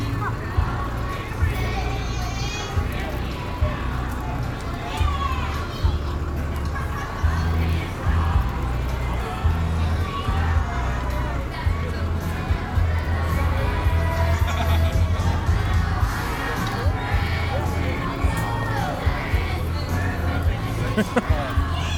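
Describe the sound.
A crowd of dozens of teenagers sings along together loudly and continuously, their ragged chorus a dense, echoing wall of group singing and shouts.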